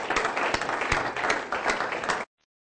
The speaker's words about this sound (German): Ein Applaus für unsere neuen Kapitäne.